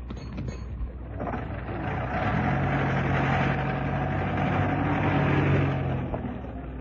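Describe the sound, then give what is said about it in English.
A taxi engine idles outside a house with a steady, low mechanical rumble, a deeper droning hum settling in after a couple of seconds and holding evenly to the end. No one speaks. “It's slowing up outside the house. It's him, all right. He's getting out of the taxi.”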